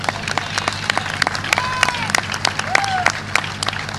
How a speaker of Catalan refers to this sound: Gràcies a tots els membres de la comissió i col·laboradors per fer-ho possible. Voldria que els fem un gran aplaudiment entre tots, ja que se'l mereixen.